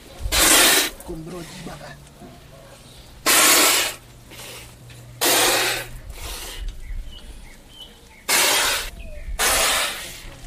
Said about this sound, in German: Aus ihrem Mund sprüht Wasser, eine Fontäne.